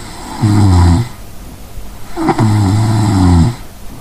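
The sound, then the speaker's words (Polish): Two loud, rumbling snores from a sleeping person: a short one, a brief quiet gap as breathing stops, then a longer, heavier snore. No talking. “Pacjent chrapie, przestaje oddychać i to jest ten moment i potem jest głośne chrapnięcie.”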